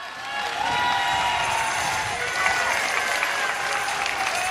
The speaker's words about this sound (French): Et l'assemblée applaudit avec enthousiasme quand le pape et l'archevêque orthodoxe se sont donné l'accolade.